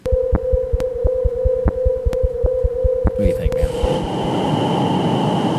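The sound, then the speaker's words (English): Rhythmic thumping pulses over a steady hum give way to a dense, rushing static hiss with a thin high whine, a NASA space recording of plasmaspheric hiss. A man speaks briefly over it. “Plasmaspheric hiss is what this one's called.”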